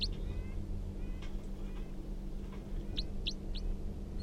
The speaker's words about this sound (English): Now pointed back up at the wild bird who's giving a few calls.